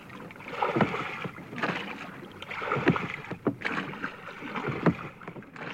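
Someone climbs aboard the Peter Duck, a 28-foot wooden sailing ketch built for Arthur Ransom, under renovation: a few irregular thumps and creaks of footsteps on the deck over a steady wash of water and light wind, with no talking.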